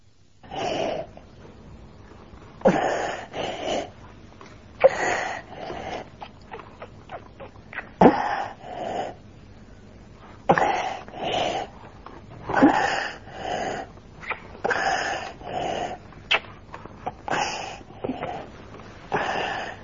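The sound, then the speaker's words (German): Soft whistling, hissing inspiratory stridor of a mild croup (pseudocroup) attack on each breath in, repeating steadily about every two to three seconds, moderately quiet, with no talking. “Und es ist bei der Einatmung ein leises, fauchendes oder pfeifendes Geräusch zu hören.”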